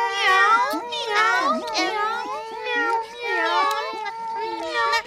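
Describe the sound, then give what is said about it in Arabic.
Voices imitate kittens meowing, a string of high, wavering mews overlapping one another almost continuously, loud, with bits of speech-like voicing mixed in. “مياو مياو، وماذا أعددت لنا يا ماما؟ مياو مياو”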